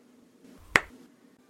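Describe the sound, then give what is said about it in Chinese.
A single sharp slap of a right hand on the buttocks: one crisp, bright smack that dies away almost instantly, heard alone over a faint low background hum with no voices. “好了，用右手狠狠地给我拍下去啊。”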